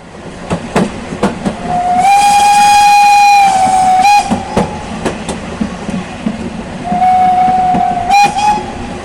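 A passing railway train rumbles steadily while its whistle sounds two long, steady blasts, the first lasting about two seconds and a shorter one near the end, with clanking wheel noise throughout.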